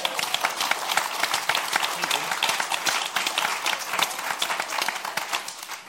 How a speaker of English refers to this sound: We have to have a proper round of applause. Yeah.